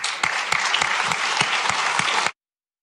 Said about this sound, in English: No new taxes on corporations. Yes, now you might wonder, wait, why are people cheering for that?